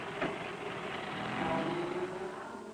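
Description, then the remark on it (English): A taxi's engine hums and rumbles steadily as it pulls away from outside the Fisherman, a continuous mid-level drone with faint tonal whine and no voices. “Frank gets in the car, and it pulls away.”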